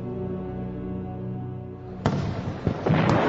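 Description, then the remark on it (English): A steady humming drone gives way to a sudden loud burst of Marblewood's massive fireworks display, followed by a few more crackling explosions close together, sharp. “With a suddenness that strongly implied to Deja that it had been prearranged, Marblewood's massive fireworks display kicked off in all its full, brilliant glory.”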